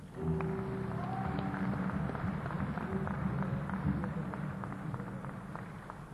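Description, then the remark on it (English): A steady round of applause, dense clapping that holds at an even level for about six seconds, with a low humming tone running underneath. “Is it a big round of applause for Big Wave, isn't it?”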